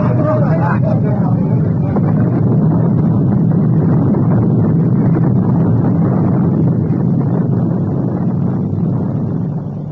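The torpedoed ship Morning Star sinks beneath the waves, her boilers bursting: a loud, steady roar of churning water and deep rumbling, with a brief wavering groan at the start, easing slightly at the very end.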